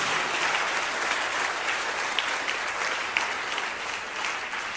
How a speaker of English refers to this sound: Can we give the Lord a big round of applause for grace?